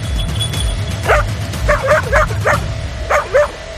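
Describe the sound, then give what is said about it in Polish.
A dog barks repeatedly, about seven sharp barks in uneven bursts, some slightly whiny, over a low rumbling background with no one talking. “Poznawaliśmy te zachowania psów, jakie są pomiędzy nimi różnice, jak one oznaczają też osoby poszkodowane, bo jedne meldują, inne szczekają, inne jeszcze oznaczają przez tak zwaną rolkę.”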